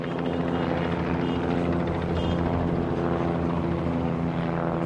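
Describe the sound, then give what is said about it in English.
A loud, steady rotor drone of helicopters and planes circling overhead above the Rangers ballpark in Arlington as fans stream out of Cowboys Stadium, a dense low thrum with a pulsing beat that stays constant throughout, with aircraft engine noise blended in and no voices. “Fans streaming out of Cowboys Stadium are greeted by helicopters and planes circling the Rangers ballpark in Arlington, just down the street.”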